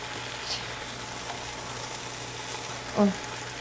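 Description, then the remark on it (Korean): A steady, soft sizzle of meat grilling hisses continuously in the background, with a low hum beneath it and a brief voiced sound near the end. “아유, 지글지글 소리가 여기까지 들리고 이거를 빨리 돌리기로 빨리 돌리면 됐네.”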